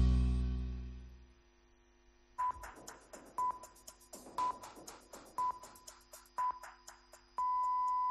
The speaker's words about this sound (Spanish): Señales horarias de las 9 de la noche, son las 8 en Canarias, sintonía COPE, sintonía tiempo de juego